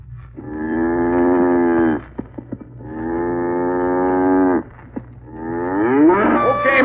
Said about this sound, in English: Cow's bedded down for the night.